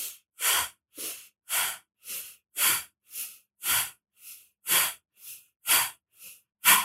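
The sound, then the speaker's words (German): Forceful, rapid breaths in and out of the belly through the nose during a breathing exercise, sitting upright with feet on the floor, about fourteen sharp puffs in a steady rhythm over seven seconds, loud, with no talking. “Und dann atmen wir in den Bauch ein und aus, durch die Nase ganz kraftvoll, 7-mal.”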